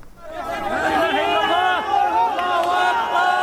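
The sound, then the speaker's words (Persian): A crowd shouts and cheers with joy as a teenager is pulled alive from earthquake rubble in Jindires, northwest Syria, more than 72 hours after the 7.8 quake; many overlapping voices rise and fall in loud, excited cries that continue steadily throughout. “صدای فریادهای شادی در پی خارج کردن یک نوجوان زنده از زیر آوار در شهر جندیرس واقع در شمال غرب سوریه پس از گذشت بیش از 72 ساعت از زلزله.”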